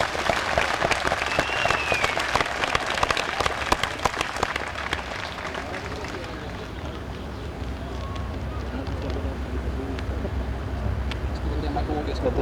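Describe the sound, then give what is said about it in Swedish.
A crowd bursts into loud, sustained applause welcoming the main speaker, with dense, crackling claps, tapering after about six seconds into softer, scattered clapping and a low murmur of voices. “och vi tar dem uttalar med en varm applåd.”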